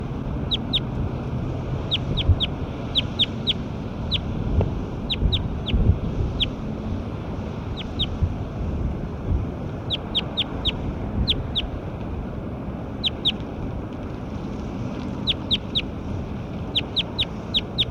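Recorded calls of a bird labeled Bird 9: short, high-pitched chirps repeating in quick clusters of two to four throughout, heard over a steady low rumbling, wind-like background noise. No one speaks.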